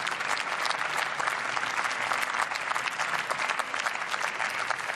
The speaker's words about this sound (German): Und Sie sehen es am fraktionsübergreifenden Beifall, dass dies auch im Haus entsprechend getragen wird.